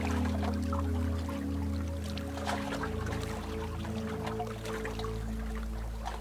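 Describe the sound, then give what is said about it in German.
Sea waves wash and splash steadily in the sunshine, with irregular bursts of spray over a continuous low engine-like drone, no voices present. “Die Sonne, das Wellenrauschen und auch diesen besonderen Duft, dieses Salzige vom Meer.”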